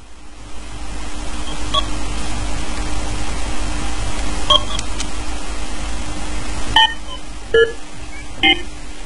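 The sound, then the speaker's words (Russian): Several short electronic beeps and blips chirp at irregular intervals over a steady background hiss and low hum, growing busier toward the end; no one speaks. “Бип-бип — это то, что мы изуродовали SFX.”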